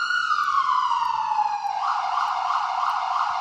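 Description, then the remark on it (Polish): A loud fire engine siren sweeps downward in a long wail, then switches to a rapid rising-and-falling yelp as fire engines start up to leave the fire station. No voices are heard. “Tak jest, odpalane są wozy, za chwilę otworzy się brama główna wyjazdowa i wstrzymany zostanie ruch.”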